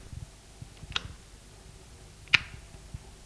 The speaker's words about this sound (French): Il ouvre la porte de son appartement et appuie sur l'interrupteur de la lumière.